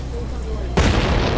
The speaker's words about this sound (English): Sorry, I keep forgetting about the 1 o'clock gun. Aye, well, some tourists have a heart attack when it goes off, but at least they know the time of death, eh?